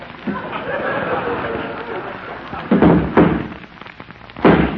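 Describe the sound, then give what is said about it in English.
A horse named Dandy kicking up his heels in his stall: three heavy, booming thuds at irregular intervals, the first two close together and the last after a pause, over a steady rustling background. “That's Dandy kicking up his heels.”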